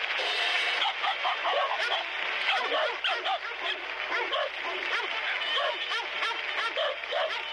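A recording of dog barks, pitched to different notes, follows one another in a quick rhythmic run that forms a sung tune, loud over a steady, busy backing, played on the Dog Show radio program on CKUW 95.9 FM in Winnipeg.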